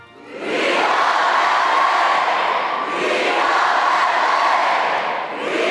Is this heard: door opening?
no